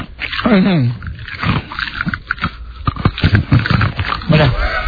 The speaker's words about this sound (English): He has to chew the ice. Is chewing ice hard for you